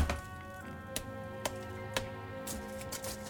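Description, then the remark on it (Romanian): Branches crack in a forest in a series of sharp, dry snaps, about half a second apart, over a soft, sustained musical backdrop. The snaps stand out clearly. “Ramuri ce trosnesc.”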